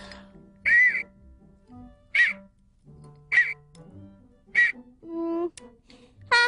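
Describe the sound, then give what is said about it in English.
A small whistle gives four short, shrill toots spaced about a second apart. They sound fairly thin and quiet, and a couple of lower, brief tones follow at the end. “A whistle? That would be great for the Lunette Parade.”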